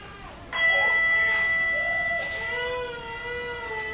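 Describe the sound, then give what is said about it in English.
A church bell is struck once, its deep, rich tone ringing out clearly and humming on for several seconds as it slowly fades. “And we toll the bell for family and friends named in our hearts who are now with the Lord in heaven.”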